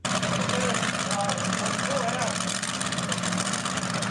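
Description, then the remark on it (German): A tractor engine runs steadily and loudly at a tractor pulling event on a field near Salzhemmendorf, where old and new tractors pull brake sleds: a constant low rumbling drone with a rough mechanical chug that holds without pause for the whole few seconds. “Da werden Bremsschlippen von den unterschiedlichsten uralten und neuen Traktoren gezogen.”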